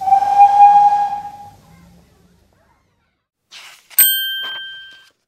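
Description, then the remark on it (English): A loud steam train whistle sounds for over a second with a breathy hiss, then fades. After a pause comes a short hissing puff and a bright bell-like ding that rings out. “Choo, choo, says the train.”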